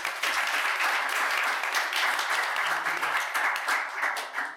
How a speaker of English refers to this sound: give her an applause.